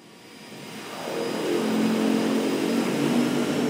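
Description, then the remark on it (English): A seaplane's engine drones steadily, swelling louder over the first couple of seconds into a sustained roar with a low throbbing hum underneath, on the first leg of a trip to Loggerhead Key, an uninhabited island in a national park. No one speaks. “To get there, I go first by seaplane, and then...”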